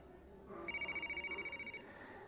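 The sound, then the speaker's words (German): A mobile phone in the audience rings out with a rapid electronic trill, its tone pulsing steadily for about a second over a low murmur of room noise. “Da hat irgendeiner ein Handy.”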